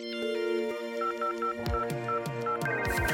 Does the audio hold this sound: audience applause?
no